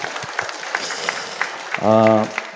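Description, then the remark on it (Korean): A church audience applauds in a steady, dense patter of clapping to congratulate those who have just prayed a salvation prayer, with a single voice briefly sounding over the applause near the end. “우리 힘차게 우리 축하해 축하합니다. 박수를 치겠습니다.”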